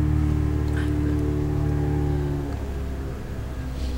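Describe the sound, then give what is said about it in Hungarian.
A motorboat engine on the Danube drones with a steady, low harmonic hum over a hiss of water. After a couple of seconds the hum thins out and softens, leaving mostly wash, with no voices. “És olyan közel vagyunk a Dunához, hogy halljuk a motorcsankot.”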